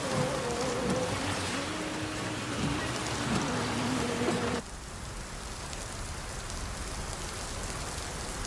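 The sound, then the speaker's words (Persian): Steady, heavy rain hisses throughout while a low engine drone from a moving car hums underneath for the first half, then cuts away, leaving only dense rainfall. “فرشاد سوار ماشین توی بارون رانندگی میکنه.”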